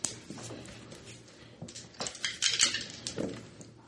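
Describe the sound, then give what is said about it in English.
Three dice rattle and tumble across a hard surface, a quick irregular run of sharp, bright clicks and clatters over a few seconds, busiest toward the end, with no one speaking. “Alright, I'd say that's good for three dice.”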